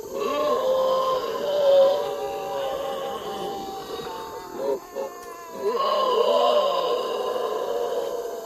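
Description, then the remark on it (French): Several children let out long, wavering howls and moans, imitating a howler monkey, in two sustained bursts with a brief pause and a few short yelps between them. “Et le singe hurleur ?”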